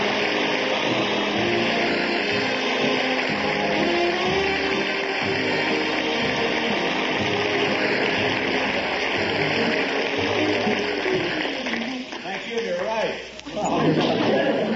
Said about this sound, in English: I can't tell you what it makes me feel like, though, to come out here all by myself, and you're all applauding, and you got those smiles on your faces, and you're glad to see me, and I just want to tell you I love you more because I need you.